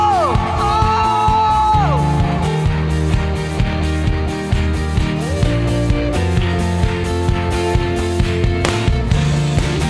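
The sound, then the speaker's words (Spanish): An audience shouts and cheers in praise to Christ, their whoops and yells blending into loud, driving worship music that plays continuously underneath, with the crowd noise sustained throughout. “¿Quiénes tienen un grito de alabanza a Cristo?”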